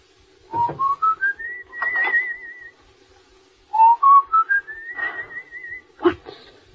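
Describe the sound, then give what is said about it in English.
Someone whistles a short, rising tune twice, each phrase stepping up in pitch and then holding a wavering high note, with a faint clink near the end. “What's that you're whistling? That? Just a song.”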